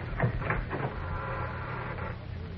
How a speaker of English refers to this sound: I heard the door creak. Yes, they're getting it open.